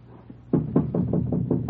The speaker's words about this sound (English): And then... All right, knock.